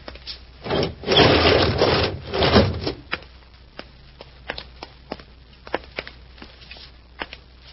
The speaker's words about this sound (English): Now we'll open the door and take inventory.